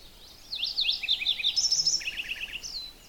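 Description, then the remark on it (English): A Lincoln's sparrow sings a bubbly, warbling song of rapid high chirps and trills lasting about two and a half seconds, clear over faint background hiss, in boreal woods. “That's a Lincoln's sparrow. Doesn't sound like your run-of-the-mill sparrows. It sounds so warbly.”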